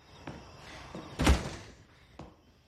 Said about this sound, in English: He peers through the curtain before opening the door.